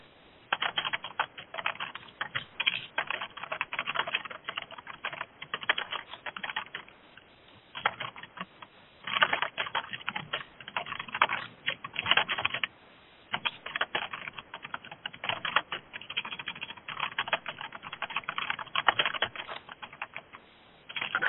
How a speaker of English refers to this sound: I want to applaud whoever types so fast on mute. You're doing very good work typing there.